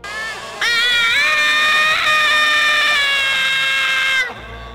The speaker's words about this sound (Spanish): Estaba medio dormido cuando oí otro grito de terror.